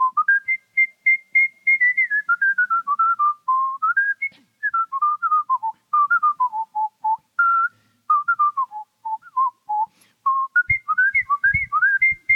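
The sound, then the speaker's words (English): A person whistles a bouncy, swinging big band melody alone, clear, with quick rising and falling phrases and a few soft clicks near the end. “that's … by …. So I whistled that”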